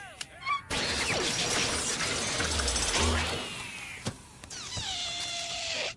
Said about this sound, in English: Wait till you see my robotic balloon animal maker.